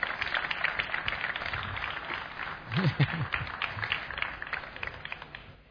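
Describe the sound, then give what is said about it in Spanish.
A crowd applauds steadily for several seconds at a motorsport club's season-opening assembly, welcoming the delegate of the Real Federación Española de Automovilismo. A dense wash of clapping at moderate loudness, with a brief voice rising in the middle before the applause gradually fades. “Me gustaría pedir un fuerte aplauso para”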